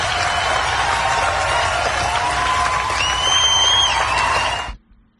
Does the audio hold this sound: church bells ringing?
no